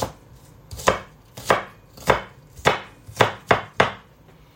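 A knife chops an onion on a cutting board, about eight crisp knocks in a steady, unhurried rhythm, each cut ringing out clearly with no voices.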